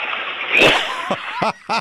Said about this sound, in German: Ich möchte deine Klospülung hören. Okay. So, wieder mal soweit. Wir zeigen eine Klospülung.